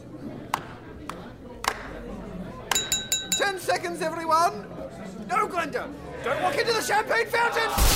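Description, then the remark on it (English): Glass and china smashing at a party as a woman smashes everything: a few sharp crashes, then a burst of ringing, clinking shards, all over loud crowd chatter and babble. “She's smashing everything!”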